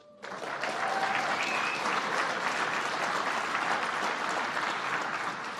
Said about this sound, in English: And thank you, Mayor Bowser, for leading the clap.